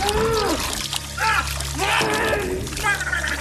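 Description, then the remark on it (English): Wet, bubbling gargling from a voice churning liquid in the throat, loud, with warbling pitch sweeps and a low constant hum beneath, lasting a few seconds. “Please clip the gargling noise.”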